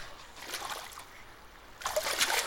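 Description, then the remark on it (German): Soft, steady trickling of water from a small spring in a forest, bubbling over stones, with a brighter burst of splashing gurgles toward the end. Fairly quiet, with no voices. “Die Prinzessin lief wieder in den Wald bis zu einer kleinen Quelle, aus der sie Wasser schöpfen wollte.”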